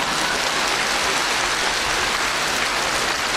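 A crowd applauds, a dense, continuous wash of many hands clapping at an even loudness for a few seconds, with no voices over it.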